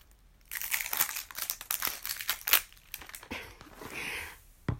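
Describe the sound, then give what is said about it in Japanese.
Crinkly plastic packaging being opened, with a quick run of sharp crackles and rustles that rise and fall irregularly, followed by a softer, smoother crinkle near the end. No one speaks. “じゃあこっちもね、ちょっと開けときましょう。”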